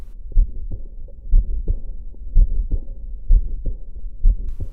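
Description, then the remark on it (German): A steady heartbeat thumps about five times, each beat followed by a soft, rushing whoosh of a heart murmur that fills the gaps between beats. No one speaks. “Ja, und dieses Fauchen, das müssen Sie dann mit Konzentration hören und dann hören Sie es aber auch.”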